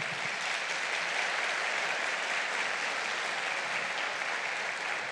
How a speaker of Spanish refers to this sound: Entonces denle un fuerte aplauso al Señor.